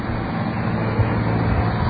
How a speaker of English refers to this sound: It's like rush hour here. There's more cars going by. Is that a fact? Well, we're giving you the live update from the Stony Brook campus here.